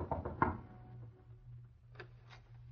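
A few quick knocks on the wooden door of a small apartment on Water Street, followed after a pause by two more separate raps, over a low, steady room hum, with no voices.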